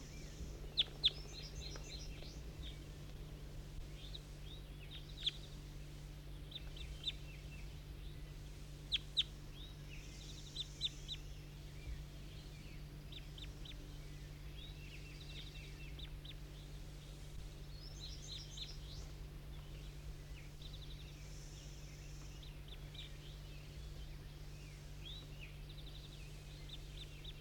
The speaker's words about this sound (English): That was bird 19 calling, and the others, 18, I think 22 and 23, took off.